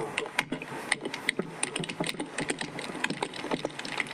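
Rapid, irregular clicking of computer keyboard keys, a dense run of sharp taps with a few louder strokes mixed in, continuing steadily with no one talking.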